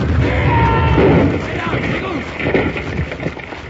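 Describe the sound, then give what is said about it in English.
A heavy explosion of a keg of blasting powder, set off when a rifle fired into it at the mouth of Batwing Cave, roars and rumbles for about a second, then settles into a lingering low rumble across the mountainside while voices call out faintly underneath. “Jingles stepped on a loose board at the mouth of Batwing Cave and set off a rifle, which fired into a keg of blasting powder, and the explosion rocked the mountainside.”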